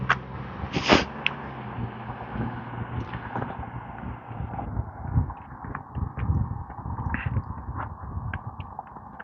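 A dog gives a harsh, honking bark that sounds much like a goose, then a few shorter, fainter yelps follow over a steady rumble of wind and outdoor noise.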